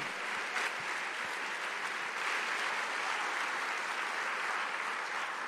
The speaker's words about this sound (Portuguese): É uma alegria quando a gente entra com o reino de Deus lá dentro. Meu Deus, realmente, aplauda Jesus por isso.